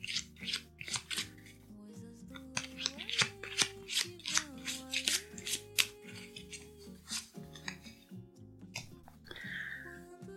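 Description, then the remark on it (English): A deck of daily affirmation cards being shuffled, a quick series of crisp riffling and sliding bursts over soft, steady background music, with no talking. “Okay, so let's shuffle these cards.”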